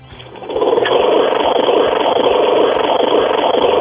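A lawnmower engine starts up and runs with a loud, steady roar, its low rumble and throbbing drone holding constant without any voices.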